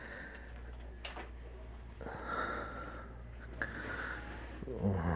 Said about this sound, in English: I found the bathroom. Luckily, nobody's in here. Make sure I lock the door.